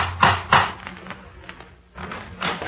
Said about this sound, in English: But none to compare with the mystery that confronted him on that first day of August, 1869. The day when Madame Guibert knocked at his door.